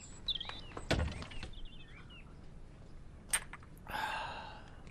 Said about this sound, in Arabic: اسمح لي يا سيدي أن أفتح لك الباب. تفضل، تفضل.